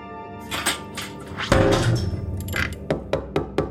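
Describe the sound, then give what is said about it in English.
A safe storing criminal evidence being closed and locked: a few light metallic clicks, a heavy thunk as the door shuts, then a run of sharp, evenly spaced mechanical clicks from the lock. “As she finishes securing the safe, there's a knock on the door.”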